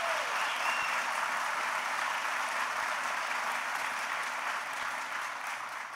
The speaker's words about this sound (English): And that is our great Senator Evan Bayh. Please give Evan a big round of applause.